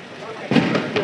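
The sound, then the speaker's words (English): Fireworks go off at a castle, heard from really close to the castle: a loud booming burst, then two more sharp pops in quick succession, with faint voices murmuring underneath. “I'm really close to the castle now, so the fireworks are happening.”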